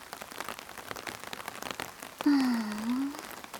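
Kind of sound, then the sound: nature, steady rain falling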